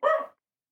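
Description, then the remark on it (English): A single short, sharp bark from the speaker's dog rings out, followed by silence with no other sounds. “Let me just say to the dog.”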